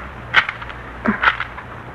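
A key rattles and clicks in a lock, followed a moment later by the clunk and creak of a door opening, over a faint low background hum.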